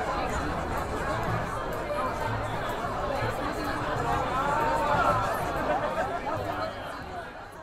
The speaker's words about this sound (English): And with that, the speakers cut the ribbon open to Wallace Annenberg Hall. The crowd then excitedly poured into the new media center among students working on deadline.